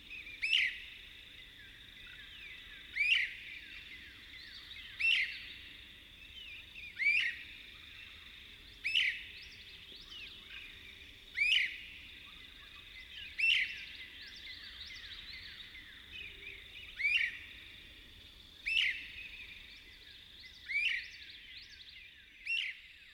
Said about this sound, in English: song of a great crested flycatcher, a robust member of the flycatcher family that is common throughout the East, but particularly abundant in the southern pines. The male's leisurely sequence of rich, wavered whistles is only heard at first light.